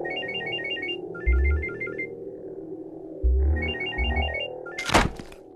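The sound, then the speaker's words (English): A mobile phone ringtone trills in short, repeating electronic bursts of high chirpy notes, interrupted by a few dull low thumps and ending with a sharp knock-like clatter. “Those phones may save a kid's life.”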